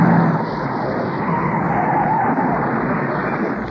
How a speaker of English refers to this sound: I enjoy going there. There's always something interesting to see, a car going into a wall.